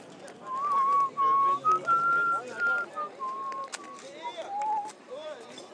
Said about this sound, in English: Why am I whistling Scottish stuff? What? Why am I whistling Scottish stuff?